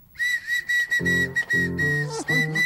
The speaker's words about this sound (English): Well, you certainly can whistle.